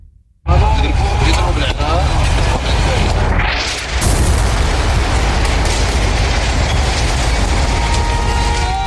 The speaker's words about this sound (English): On Monday, a massive explosion rocked residential buildings in Beirut's southern suburbs following an Israeli warning